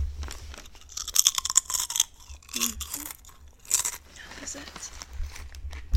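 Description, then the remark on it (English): Loud crunching of jalapeno potato chips being bitten and chewed, with sharp brittle cracks repeating in irregular bursts over several seconds. “Oh, yeah, give them the ASMR crunch.”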